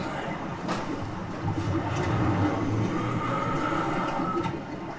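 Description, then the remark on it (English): A big red London bus, moving up and down as an artistic gimmick outside the Czech House on Upper Street in Islington, rumbles steadily, its low engine drone and mechanical whirring holding loud and continuous throughout, with faint higher squeaks and clatter on top. “it's moving up and down, and it's making a funny noise. And what's so special about this big red bus?”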